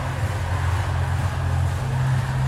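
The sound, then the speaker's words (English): A concert crowd of about 2.1 million people in Brazil makes a steady, dense roar, a continuous wash of noise with a heavy low rumble underneath and no single voice standing out. “This is what 2.1 million people sound like.”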